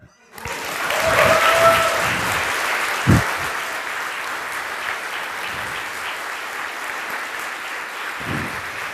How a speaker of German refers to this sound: Der Applaus gerade eben entschädigt sehr für die letzten 4 Tage.